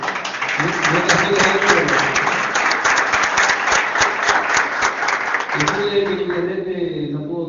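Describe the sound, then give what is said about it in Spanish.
An audience applauds to congratulate two organizers of a museum, with dense, steady clapping for about five seconds, then the applause thins out as a voice starts talking over the last scattered claps. “porque son ellos también los que generan, uno puede tener la idea, pero los que llevan la acción adelante son ellos dos, así que felicitarlo y tener un aplauso también para que.”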